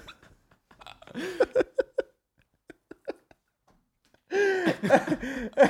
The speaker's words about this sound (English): Now there's, look at the dog trying to get in.